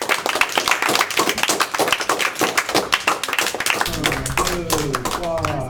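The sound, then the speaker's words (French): An audience claps loudly and continuously for about four seconds for a music group on Studio Zef radio, a dense crackle of many hands, then the applause fades under a voice that begins speaking near the end. “Et puis on accueille tout de suite un autre groupe, on peut vous applaudir.”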